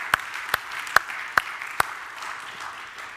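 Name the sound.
audience hand clapping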